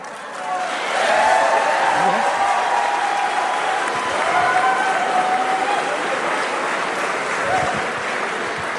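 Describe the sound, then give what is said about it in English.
A loud, unruly crowd at a Nebraska town hall held by GOP Representative Mike Flood shouts and jeers continuously, with raised voices overlapping and clapping mixed in, a dense, sustained roar without letting up. “Here's him trying to keep a handle on a very unruly and raucous Nebraska crowd.”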